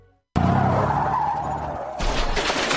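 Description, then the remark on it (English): Car tires skid with a sudden, loud screech as a car is about to hit a deer, holding a high squealing tone for over a second, then turning to a harsher, rougher burst of noise near the end. No one speaks. “Congratulations, you just met a deer with your bumper.”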